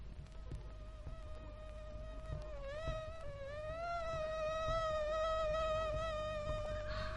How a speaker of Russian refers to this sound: Что это? Комары? Да-да. На смену мухам прилетели комары. Господи! Они ни на минуту не умолкали. Зудели и кусались. Кусались и зудели.